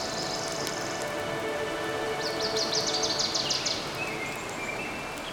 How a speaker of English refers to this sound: Oh my goodness! Look at that magnificent waterfall. It's called Yosemite Falls. Isn't it amazing? Yes. Wandi, are you recording the sounds of the waterfall?